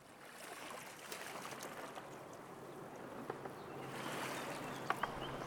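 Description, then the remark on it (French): Gentle water laps and swishes continuously at the Barrage Vauban in Strasbourg, France, layered over a low, steady urban hum of the city, with a few faint clicks and small splashes breaking through toward the end. “Prête l'oreille à tous ces bruits qui accompagnent la rumeur citadine et le chuintement de l'eau.”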